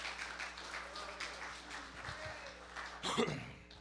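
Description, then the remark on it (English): An audience claps steadily in praise of the Lord at an evening church service, a dense, sustained wash of applause, with a brief louder swell and scattered voices rising near the end. “Would you give the Lord a hand clap of praise tonight?”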